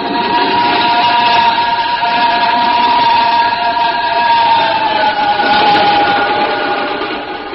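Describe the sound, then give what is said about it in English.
A train roars steadily along the rails at night, loud, with a sustained high metallic whine over the rumble that swells briefly twice before easing slightly. No voices are heard. “Sat there for a long, breathless moment as the train roared off into the night, leaving only the singing rails to mark its passing.”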